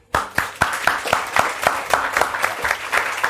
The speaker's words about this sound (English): But also while we're here, let's just say thank you to Fitzcarraldo, who in the 2 years they've been in existence have completely redefined the face of British literary publishing and deserve a small round of applause for doing so.